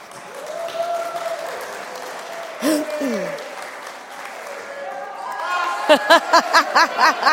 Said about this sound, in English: Excellent, give them a round of applause.